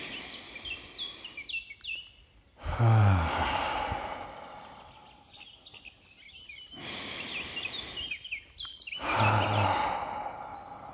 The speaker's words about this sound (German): Und zwischendurch hört ihr mal ein bisschen den Vögeln zu